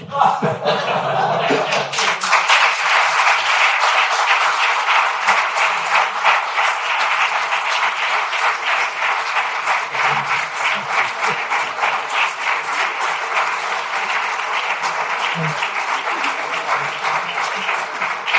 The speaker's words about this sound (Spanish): Para terminar con algo más gracioso aún, que va a provocar más aplausos todavía, voy a decir cómo terminó.